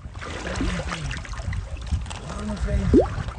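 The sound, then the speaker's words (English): A fisherman draws a long net steadily through the water on the Aral Sea's shoreline in Uzbekistan to gather brine shrimp eggs, producing a continuous sloshing and trickling, with faint murmuring voices in the background and a brief sharp rising chirp near the end. “draws a long net through the water to gather the tiny eggs.”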